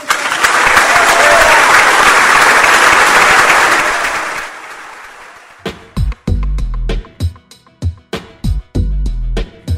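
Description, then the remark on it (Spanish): A large audience breaks into loud, sustained applause after a speech, swelling for several seconds before tapering off, followed by a series of punchy rhythmic beats as music starts. “Bueno, esa frase fue la que elegimos como cierre porque fue la que despertó más aplausos.”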